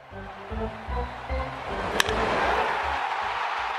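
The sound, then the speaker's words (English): A single sharp crack of a baseball bat rings out midway, instantly followed by a broad, rising roar of a crowd that carries on to the end. “The crack of the bat is as timeless a part of baseball as the roar of the crowd and the smell of hot dogs in the bleachers.”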